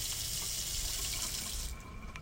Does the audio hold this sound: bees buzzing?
no